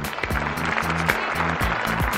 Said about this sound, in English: And all the people said, amen. Give the Lord a good hand, everybody.